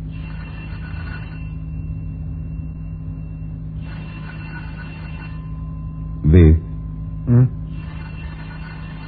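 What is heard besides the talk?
telephone ringing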